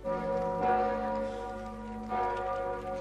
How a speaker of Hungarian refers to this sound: Harangszóra érkeztek a hívek az esztergomi bazilikába.